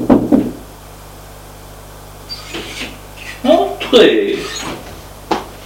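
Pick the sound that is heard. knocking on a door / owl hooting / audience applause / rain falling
knocking on a door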